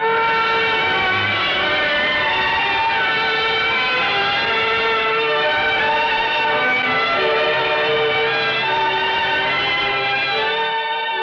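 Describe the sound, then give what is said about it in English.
A train runs steadily along the rails on Thanksgiving morning, carrying a newly married couple after their wedding: a loud, continuous rumble layered with sustained whining, whistle-like tones that hold for the whole stretch without pause. No one speaks. “After the wedding, David and I got on the train.”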